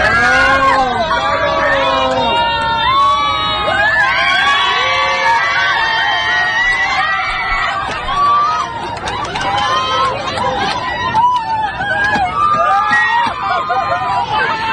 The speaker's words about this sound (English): So we get a viral video of a very cautious, embarrassed male flight attendant at the bathroom door being egged on by passengers to open it.